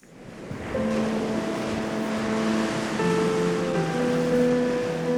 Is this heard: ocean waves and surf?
yes